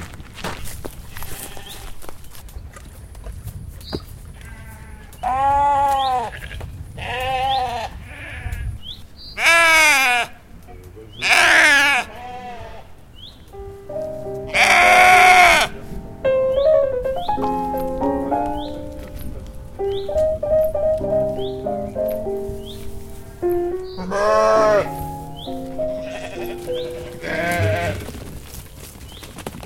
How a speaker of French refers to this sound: Et là, c'est toutes vos brebis, là ? Ouais. Alors là, il y a des brebis